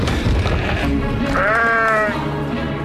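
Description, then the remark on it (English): A sheep lets out one loud, drawn-out bleat partway through, wavering as it rises, over a busy, rumbling background that continues throughout. “There's something wrong with the sheep.”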